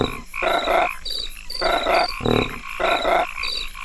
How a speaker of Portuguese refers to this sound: Sai sapo. Sai sapo.